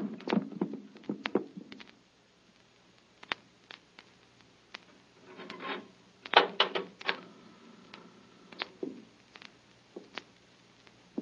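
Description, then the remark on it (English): A knife is jammed and hammered into a wooden cupboard door to hold it shut in place of a lock: a scattered series of sharp knocks and scraping clicks, clustered in bursts with short pauses between, no voices. “Hey, there ain't no lock to this here cupboard door. I'll drive something in there. Here, this knife.”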